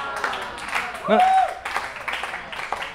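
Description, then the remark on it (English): A crowd cheers and claps loudly, with a burst of whoops rising over the noise, then the applause continues steadily for a few seconds. “Don't cheer for me.”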